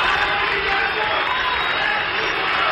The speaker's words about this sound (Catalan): I és que el punt comú de tot plegat és aquest, que tots ells van ser xiulats quan es demanava unitat des de l'escenari.